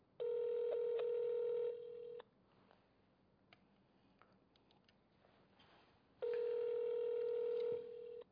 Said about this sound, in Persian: داره به شما تماس میگیره، مردی جواب تلفنشو بدید.